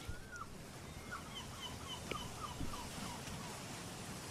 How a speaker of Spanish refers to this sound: Primero vamos a escuchar esa gaviota que viene volando, libre.